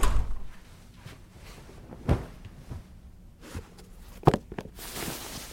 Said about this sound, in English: I went to the adjacent room and shut the door.